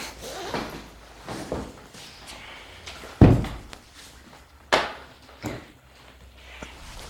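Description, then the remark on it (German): A sofa bed is unfolded with scraping and creaking, punctuated by a heavy thunk and a second sharp clunk a moment later, then a softer knock as the frame settles. No voices. “Das ist dein Schlafsofa. Ich zeig's dir.”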